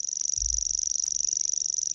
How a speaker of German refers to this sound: Das ist ein Feldschwirrl, der sich fast wie so ein Grillenzirpen anhört. Der Ton, der kann sich über eine Minute lang hinziehen.